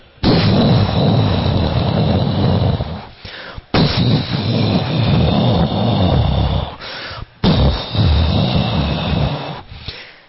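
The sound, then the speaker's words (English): Three long, loud rumbling rolls of thunder, each lasting about three seconds with a deep, heavy low end, separated by brief breaks. No one speaks. “And the clouds appeared and began to thunder.”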